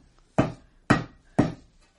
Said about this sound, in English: There's some light around this bulkhead door. Knock. Here goes. Again.